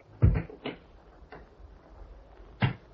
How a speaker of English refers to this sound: Listen as the clock moves on.